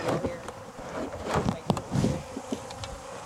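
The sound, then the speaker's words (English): A dense, steady buzzing of many bees swarming as beekeepers work a hive, a continuous droning hum with small rises and dips in loudness and occasional brief knocks or clicks. “Bottom board will probably just buzz.”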